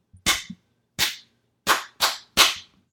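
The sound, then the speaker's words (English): Hands clap a rhythm of long and short sounds in a music lesson: five sharp, loud claps in an uneven rhythm, two spaced claps, then a quick run of three close together. Each is a bright, crisp smack with no voices around it. “You just clapped some different rhythms.”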